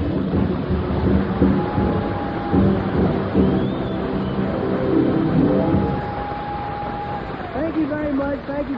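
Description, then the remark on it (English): A crowd applauds loudly and steadily as comedian Red Skelton is introduced, with Jack Dempsey clapping harder than usual, a dense wash of clapping that holds for several seconds at an even level without fading out, with a faint thin tone drifting through it. “That extra force and applause there was Jack Dempsey giving out a little more than usual.”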